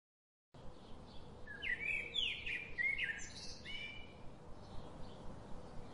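birds chirping

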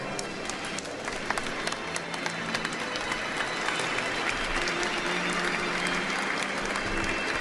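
wedding guests applauding

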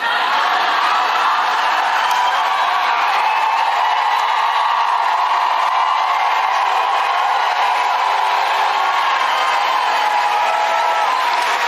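crowd cheering

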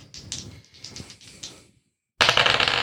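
dice being rolled

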